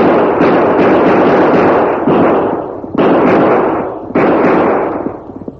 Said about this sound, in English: Twelve shots rang out through the silent night.